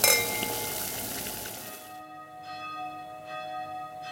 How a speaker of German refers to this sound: Ihr hört die Glocken, Leute.